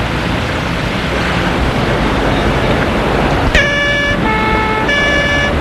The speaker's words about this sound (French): Et la voiture démarre.